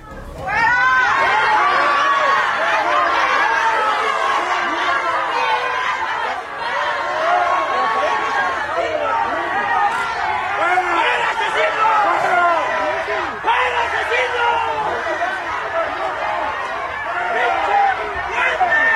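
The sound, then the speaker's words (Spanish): A large crowd at the wake of Uruapan mayor Carlos Manzo shouts and jeers continuously at Michoacán governor Alfredo Ramírez Bedolla, many overlapping voices rising into loud, angry chanting of "fuera" (out) with scattered booing throughout, sustained at high volume as he is driven out. “Mientras escuchamos estas voces que gritan fuera, fuera, fuera, fuera, entre otras cosas, ahí va, le indican una salida para alguna de las calles a Alfredo Ramírez Bedoya y mejor se va.”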